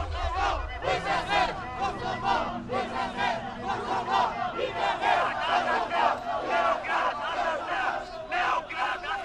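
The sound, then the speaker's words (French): A large crowd of protesters chants slogans in loud, rhythmic unison, voices rising and falling in repeated bursts over a low steady rumble throughout: several hundred demonstrators of Albanian origin on Brussels' small ring road in 1980, shouting "Free Kosovo, Belgrade murderer!" “« Libérez le Kosovo, Belgrade assassin !» crient les manifestants.”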